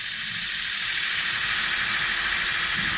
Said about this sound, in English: It sounds like a truck. It's probably a mixer. Yeah, it is indeed. It's a whisk. You got it.